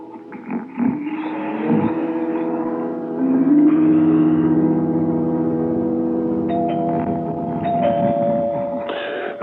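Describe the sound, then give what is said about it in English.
A doorbell rings on and on for several seconds, a loud, steady electric tone with bright harmonics that shifts pitch slightly partway through. No one speaks. “For crying out loud, I hear you ringing. I'm coming. What kind of idiot would be at the door at this time?”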